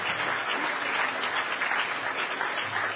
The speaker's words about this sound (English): Give her a huge round of applause.